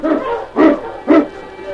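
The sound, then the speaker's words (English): A team of sled huskies, led by the dog King, yelps and whines continuously, with two loud barks ringing out about half a second apart above the excited chorus. “On, you Huskies!”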